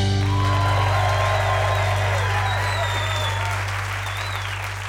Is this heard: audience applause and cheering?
yes